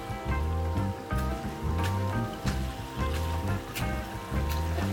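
Splashy steps wading through a small stream in Navarra, Spain, on a walking route, a wet slosh landing roughly every second over a steady, rumbling churn of moving water; no one speaks.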